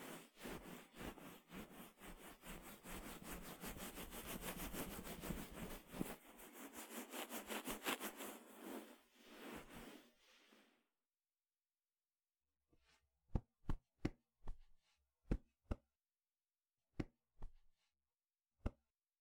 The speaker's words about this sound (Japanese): キャップを外しますね。そのままタオルで水分を取っていきます。